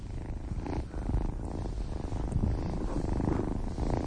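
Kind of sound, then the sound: animal, cat purring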